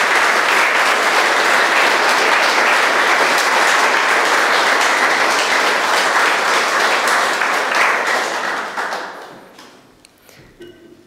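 A large audience applauds steadily and loudly in thanks for about nine seconds, a dense wash of clapping that then fades quickly, leaving a few scattered claps and quiet room noise.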